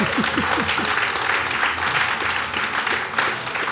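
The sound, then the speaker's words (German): An audience applauds steadily, a dense wash of many hands clapping at a fairly loud, even level throughout, with a few higher whoops or voices rising briefly near the start. “Oh, das ist ein Applaus für das kommt ja fast die Tränen.”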